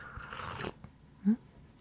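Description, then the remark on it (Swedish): A brief, airy slurp of tea, followed by a soft gulp a moment later. Quiet and isolated, with no talking. “Du får sörpla lite te då. Det är väl ett ganska mysigt ljud ändå.”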